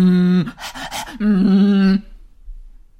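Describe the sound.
A voice imitates panting: a voiced tone, then a quick burst of breathy huffs, then another sustained voiced sound, ending abruptly in near silence. Fairly loud, with no other talk.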